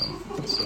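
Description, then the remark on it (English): Crickets chirp in a steady, high-pitched trill that swells briefly, heard alone over a faint low background hum, with no one speaking. “Yeah, those crickets will probably be on this recording.”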